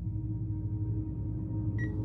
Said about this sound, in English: A beeping sound like an alarm clock woke me up as I tried to sit up and find the source to shut it off.